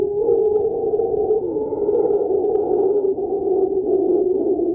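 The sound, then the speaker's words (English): A mantled howler monkey roars in a deep, continuous, droning call that stays loud for the whole stretch, with no pauses and no other voices. “This is the sound of the mantled howler monkey.”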